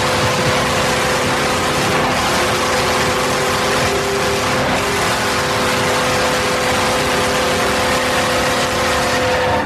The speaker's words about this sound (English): Well, that is a full-throated horn. It's got a nice sort of subtle emergency signal in the background, kind of an ambulance thing going on there. I like that. I detected hints of oak also. The thing just never ended.